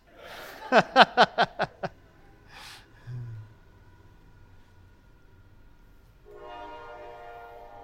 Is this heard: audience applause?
no